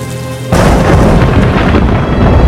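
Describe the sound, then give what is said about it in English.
A loud crack of thunder in a storm at night breaks in suddenly and rolls on as a dense, heavy, rumbling roar that fills the rest of the moment, with no voices. “Must have been a night like this that it all ended for Amutan. Imagine the Apistos loaded with Amutan's collection coming up against a storm like this.”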